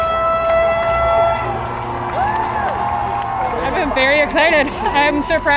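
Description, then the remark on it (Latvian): Sustained car horns blare together from drivers in traffic jams in the streets of Washington near the White House, as crowds wave flags celebrating Joe Biden's election win; a lively crowd cheers and whoops, with shouting voices growing louder toward the end. “Daudz devās Baltā nama tuvumā, vicināja karogus un automašīnas šoferi sastrēgumos aktīvi taurē.”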